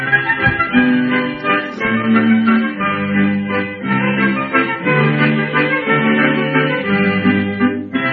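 An old, muffled song recording plays steadily, with sustained melodic tones and thin, band-limited sound, holding a fairly even loudness throughout.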